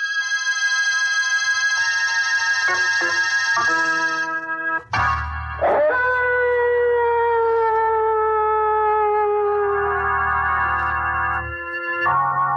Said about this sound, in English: And wait till you hear those howling dogs.